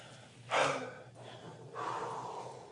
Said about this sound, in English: But first of all, we just want to catch our breaths. Y'all breathing all right back there?